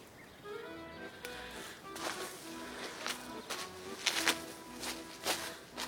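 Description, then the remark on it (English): Heavy footsteps stomp around in an uneven rhythm, a dozen or so thuds over a few seconds, fairly quiet with a faint voice-like murmur in the background. “Why are you stomping about”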